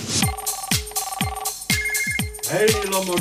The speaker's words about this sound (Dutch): Laten we die even bellen dan. Laat hem gewoon eventjes bellen, ja.